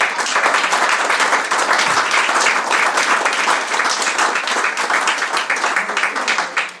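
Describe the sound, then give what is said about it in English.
Sustained applause from an audience at a Croatian literature event at the London Book Fair, welcoming authors who are about to read, dense and steady with many hands clapping at once, fairly loud, filling the whole stretch without a break. “So before starting, there's an old custom in Croatia, maybe dating from I think 7th or 8th century, to give a very very warm applause to the authors that are going to read.”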